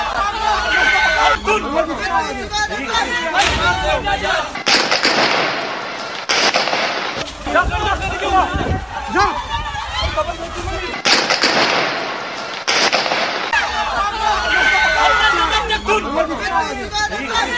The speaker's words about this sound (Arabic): عشان ما يقعد يقول لكم ده ما رصاص هذا الرصاص ذاته يفلقوا فينا في الرصاص